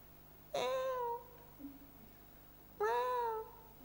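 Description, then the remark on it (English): A cat meows twice, each cry drawn out for about half a second with a few seconds of pause between, fairly faint against a low, steady background hum, heard from a car stopped at traffic lights in Leith. “Traffic lights, or maybe there's a cat or something around about.”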